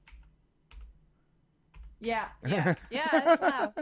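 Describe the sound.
A few sparse, thumpy computer keyboard keystrokes, spaced about a second apart, followed by a loud voice vocalizing over the last half.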